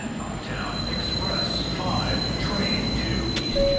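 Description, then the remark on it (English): A subway train rumbles steadily through Fulton Center, a shopping mall and subway station in Manhattan, New York City, a thin, high wheel squeal ringing above the low roar, with faint crowd voices mixed into the background. “Like Fulton Center, a shopping mall and subway station in Manhattan that hundreds of thousands of people pass through every day.”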